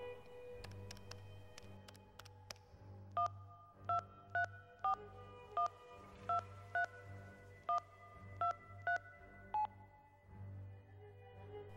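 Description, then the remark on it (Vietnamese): A quick run of about ten telephone keypad tones, each a short two-pitch beep, dialed in an uneven rhythm over a low steady hum, with faint clicks before the dialing begins, as a room telephone is tried out. “Anh nói lúc vào phòng Hàn Băng, không đợi cô trả lời đã đến thử điện thoại.”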